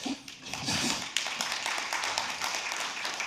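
An audience at a software demonstration applauds steadily, a dense wash of many hands clapping at once, holding at a fairly even level for a few seconds with no voices over it.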